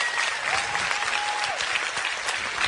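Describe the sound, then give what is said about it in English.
Steady audience applause fills the whole stretch, a dense, even patter of many hands clapping at full volume, with a faint tonal whistle-like line gliding briefly through it, as the audience welcomes a married couple being called up. “Everybody give them a huge round of applause.”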